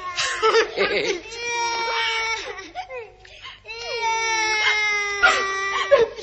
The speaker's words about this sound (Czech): A nebreč, nemáš proč.